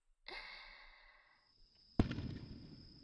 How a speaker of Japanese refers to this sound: あ、花火始まっちゃった。ここで見ちゃおうか。